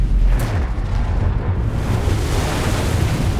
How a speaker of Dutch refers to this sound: Twee motortorpedoboten naderen het vrachtschip schuin van achteren en vuren hun torpedo's af. Dan klinken twee doffe klappen.